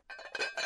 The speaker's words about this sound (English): So it's milk glass. And if you're not familiar with milk glass, just, you know. Milk glass sounds like this.